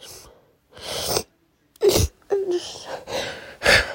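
A run of loud, breathy sneezes and wet sniffles, five or so noisy bursts in quick succession with short gaps, some ending in a brief voiced groan, and no talking.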